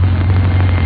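A motorcycle engine being warmed up at night near a boarding-house room idles steadily and close by, a loud, constant low rumble with no pauses or speech over it.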